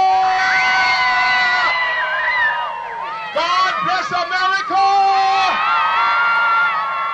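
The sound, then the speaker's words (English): A crowd at a rally for America in Savannah, Georgia, supporting the war, cheers loudly without pause as a radio personality stirs them; many overlapping voices shouting, whooping and screaming at high pitch, with a brief ragged dip midway before the roar swells again. “… stirred the crowd at a rally for America. Can we hear it for America?”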